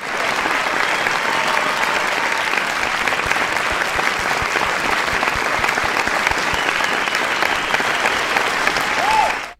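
A full round of applause from a crowd, many hands clapping in a dense, steady roar that holds evenly for nearly ten seconds before cutting off abruptly. No one speaks.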